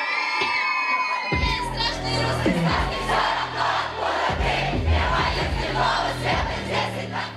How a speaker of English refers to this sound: The crowd sings along to the lyrics